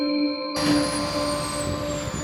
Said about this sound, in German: So, man hört es, wir haben das Auto wieder verlassen und gehen nochmal ran an den Embraer Jet hier von Air Dolomiti.